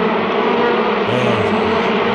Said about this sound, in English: Bees! Millions of bees!